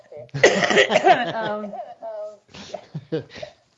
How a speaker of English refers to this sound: Just about to cough here.